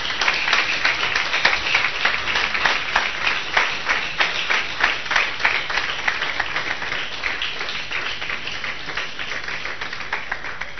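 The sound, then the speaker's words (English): A crowd applauds steadily for about eleven seconds, many hands clapping in a dense, fast patter that stays at a fairly even, moderately loud level with no voices standing out. “Let's clap for him.”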